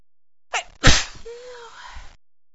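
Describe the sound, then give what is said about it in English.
A single loud sneeze, preceded by a sharp inhaling breath and trailing off into a brief voiced groan. “What's making me sneeze so much?”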